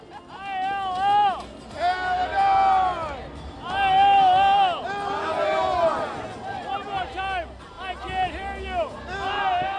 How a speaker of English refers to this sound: As those balloons dropped and confetti fell, Illinois delegates to the RNC were as caught up as everyone else on the convention floor. Illinois' GOP Chairman … led them all in a cheer.